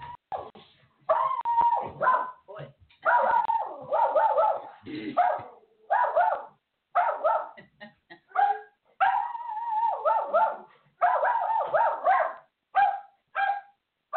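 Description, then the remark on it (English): Several dogs bark and yip excitedly at the door as somebody comes to it, in overlapping, irregular bursts, with high whines and whimpers mixed in, loud and continuous for the whole stretch with only brief pauses. “has a menagerie over here. When somebody comes to the door, they're...”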